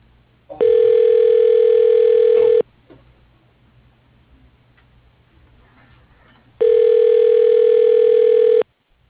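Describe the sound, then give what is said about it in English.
A telephone ringing tone sounds twice on a call to Brady Trucking, each steady, buzzy two-second burst separated by about four seconds of quiet low hum, and nobody answers. “If you don't pick up the fucking phone.”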